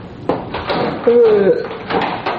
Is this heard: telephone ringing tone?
no